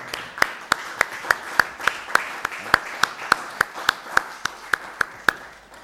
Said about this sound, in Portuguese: Foi aprovado por unanimidade. E com aclamação, se me permitem, que eu vou bater palmas.